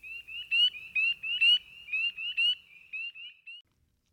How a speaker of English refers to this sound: The pool is swarming with aquatic and aerial insect life, which attracts birds, turtles, and frogs. In late March and April, tiny spring peepers sing their bell-like chorus.